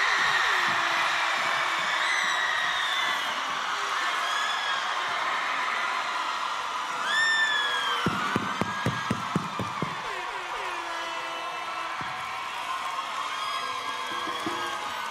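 A large crowd at the Splash festival cheers and shouts continuously, with whoops and screams rising over a dense roar, plus a burst of rapid clapping midway, all loud and reverberant.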